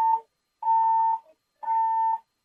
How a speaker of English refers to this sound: I want to let you know the fire alarm is going off in D.C. Superior Court right now.